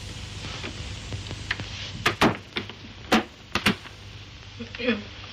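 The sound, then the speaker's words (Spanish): A man closes the door of a room with a series of sharp clicks and thuds, the latch and frame knocking several times in quick succession against a low background hum. “Él deposita su caja sobre un aparador y cierra la puerta.”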